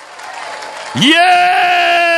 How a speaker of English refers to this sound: Come on, shout as you clap. Yes! Yes, yes, yes, yes, yes!